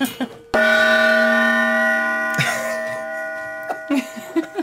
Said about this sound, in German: Ein Gong.